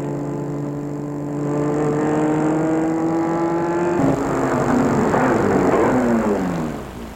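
A car engine hums steadily, then grows rougher as the vehicle slows, its pitch dropping as it rolls to a halt in front of a gray four-storey apartment building. No one speaks.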